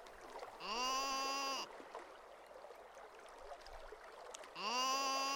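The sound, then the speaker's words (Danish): A lone sheep bleats twice by a calm lake with almost no wind, each call a loud, wavering baa lasting about a second, separated by a few seconds of quiet outdoor ambience with soft water-like background noise. “Da Geo er kommet helt hen til lyden, får han øje på et sødt får.”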